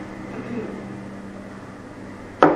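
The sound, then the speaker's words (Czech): A low, steady mechanical hum fills the background, then near the end a single sharp, bright knock rings out as two transparent glass mugs and glass jars are set down or bumped together. “Dva průhledné hrnky moje oblíbené. Sklenice”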